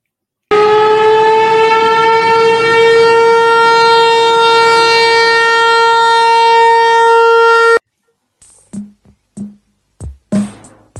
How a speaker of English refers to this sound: As usual, let's sound the sirens.